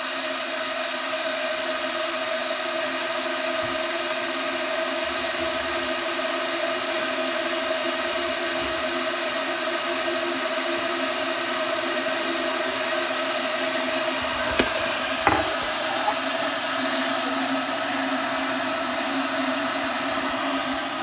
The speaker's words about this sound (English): Okay, Kettle. Keep up the good work. I'm going to get a cup.